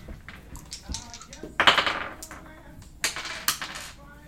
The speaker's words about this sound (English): Stupid dice. You can stop rolling that one. I'm going to stop rolling that one. It's so big and glowy.